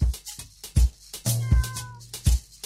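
A cat gives one drawn-out meow near the middle, set against steady, evenly spaced low thumps that continue throughout.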